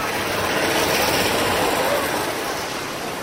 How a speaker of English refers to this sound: Now, if you were a boy in the 1950s, chances are you probably got a Hornby train set for Christmas, just like this one coming by.